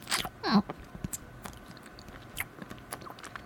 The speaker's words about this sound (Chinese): 妹妹也很会玩嘛，先是嚼碎了，在嘴里弄成一个小团，才一点点吐出来。